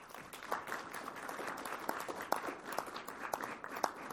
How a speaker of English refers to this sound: Please give a nice round of applause for Associate Professor